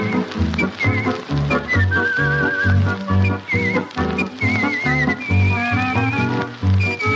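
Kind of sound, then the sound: artistic whistling performance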